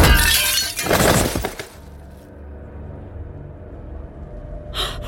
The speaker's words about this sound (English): Oh my god! What? Did you guys see that? That woman just smashed her head into a fucking mirror like she just...